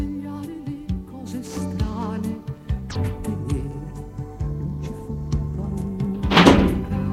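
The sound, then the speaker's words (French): Dull, hollow knocks on a door as a meal is delivered to a room, a few scattered thumps and then a louder cluster near the end, set against a steady humming tonal background with no one speaking. “On frappe à la porte.”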